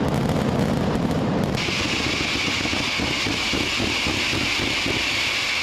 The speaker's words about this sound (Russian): Фестиваль представляет собой 5 шумных дней фейерверков, празднеств и процессий в честь святого Иосифа